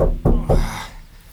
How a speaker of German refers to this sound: Dann klopfte es erneut von außen gegen die Wagentür.